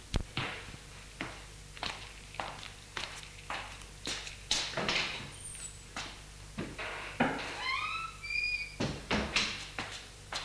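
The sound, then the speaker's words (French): A wooden sideboard door creaks open as a grandmother takes out a bottle and three glasses, amid a series of knocks and clatters, with glassware clinking briefly near the end. “La grand-mère se lève, va au buffet, l'ouvre et sort une bouteille et trois verres qu'elle porte sur la table.”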